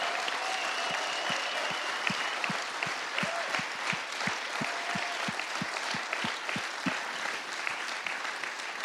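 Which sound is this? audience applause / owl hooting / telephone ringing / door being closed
audience applause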